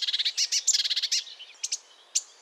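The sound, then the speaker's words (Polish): A marsh warbler sings a fast, varied run of high chirps and buzzy notes imitating other birds such as sparrows, blackbird, great and blue tits, swallow, magpie, whitethroat and skylark, then breaks into a few spaced calls. Clear, with no voices. “Taki śpiew może trwać aż kilka minut i w jednym może się znaleźć aż kilkadziesiąt różnych dźwięków.”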